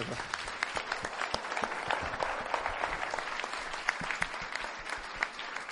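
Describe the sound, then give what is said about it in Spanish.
An audience claps steadily for several seconds after prayer at a Christian gathering, applause offered to God: dense overlapping handclaps at a moderate, even level, with faint voices mixed in underneath. “Dios, un aplauso.”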